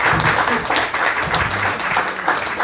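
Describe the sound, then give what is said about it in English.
A crowd applauds a speaker after hearing their personal story, a dense wash of many hands clapping at once with a few faint voices mixed in, loud and sustained throughout. “Let's have another round of applause for our speaker.”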